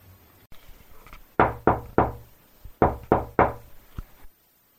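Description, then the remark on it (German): Two sets of three sharp knocks on a door by an old widowed neighbour dressed as Saint Nicholas, evenly spaced with a short pause between the groups, loud, with no one speaking. “Plötzlich klopft es an der Tür.”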